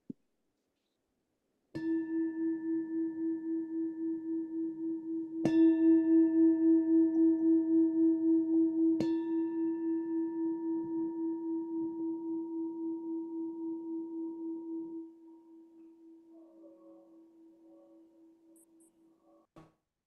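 A bell is struck three times a few seconds apart to begin a guided practice session, each strike adding to a low, humming tone that wavers and rings on long after the last stroke before slowly fading out.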